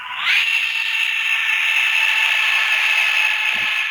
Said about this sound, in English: And that was an F-15 Eagle taking off on a radio-controlled strip. This is RC Air Sim,